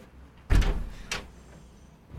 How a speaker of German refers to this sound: Sie sagt nichts. Sie tut die Türen zu.